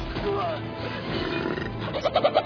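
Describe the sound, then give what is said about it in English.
A harsh, guttural orc call from a human voice, rough and bleating, ending in a quick run of loud pulsing grunts that ring and echo off the background buildings. “Well, it's not really a chicken, but it's an orc call that he gives out. But it's I love it because it sort of echoes off the background buildings.”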